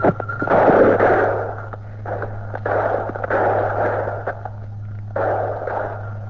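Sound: gunfire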